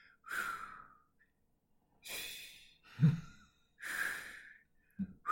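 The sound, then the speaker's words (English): A person imitates a man breathing in a gym steam room with a series of breathy, sighing exhales and sharp inhales, each at a slightly different pitch, about five breaths spaced roughly a second apart. “And he was breathing like that. Like, but he was like doing it in different little pitches.”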